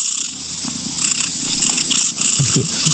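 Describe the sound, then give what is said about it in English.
A cat purrs steadily, a loud, continuous rattling rumble with a breathy hiss layered over it and no voices. “Someone said that one sounds like a rattlesnake. It's my cat.”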